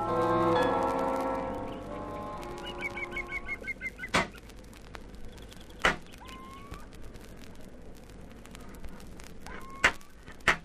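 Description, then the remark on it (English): Hammering on metal coming from behind a hut: a ringing metallic tone fades out, then sharp, loud clangs strike at irregular intervals, with faint chirping and a low background hum between the blows. “What the dickens is that noise? Sounds like somebody hammering on metal.”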